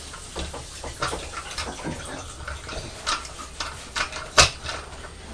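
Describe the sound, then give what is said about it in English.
Running tap water splashes steadily over a chopping board being rinsed, with small clattering knocks throughout and one sharper clunk near the end, moderately loud. “Just cleaning the chopping board.”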